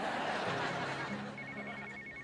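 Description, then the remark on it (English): Ted's telephone starts ringing partway through with a call from Marshall, a steady, repeating electronic trill over a wash of background noise, clear, with no talking. “Ted answers his phone.”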